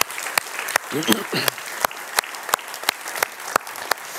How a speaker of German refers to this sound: Und ich glaube, das verdient einen herzlichen Applaus.